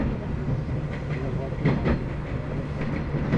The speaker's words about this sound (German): Das ist schön mit diesem Klick, Klack, Klick, Klack. Wie zu DDR-Zeiten in den Zügen so.